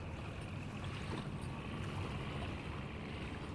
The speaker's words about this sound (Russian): А тут все замолчали, и стало так тихо. Был только слышен звук дизеля, который работал и толкал на сторону Русского острова, и только шелест воды.